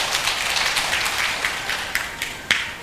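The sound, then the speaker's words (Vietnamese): An audience at a Hòa Hảo Buddhist gift-giving gathering before Tết at Kiến Long pagoda, Châu Thành district, Vietnam, applauds steadily for a few seconds, a dense, crackling wash of many hands clapping with a few sharper, louder claps standing out near the end. “Xin bà con hãy cho một tràng vỗ tay để tán dương tinh thần chung.”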